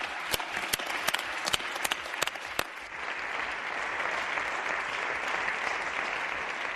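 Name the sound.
parliament members applauding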